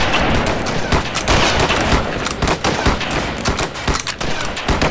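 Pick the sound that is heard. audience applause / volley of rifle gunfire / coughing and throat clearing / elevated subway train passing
volley of rifle gunfire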